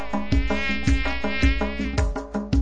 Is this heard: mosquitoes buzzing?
yes